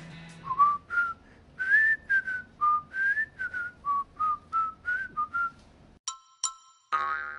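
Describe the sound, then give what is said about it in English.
A cheerful whistled TV theme song melody plays alone, a bouncy run of short, clear notes rising and falling, then ends with a couple of bright, ringing chime-like tones. “it'd probably be the Andy Griffith theme song. Just the whistling.”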